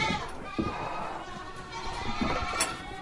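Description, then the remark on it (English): Several goats at Blue Ledge Farm bleat in overlapping wavering cries that continue steadily for a few seconds with no one speaking. “Thanks to the family at Blue Ledge Farm for letting us come visit and for teaching us all about goats and cheese making.”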